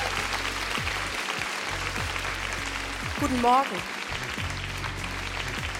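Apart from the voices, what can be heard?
studio audience applause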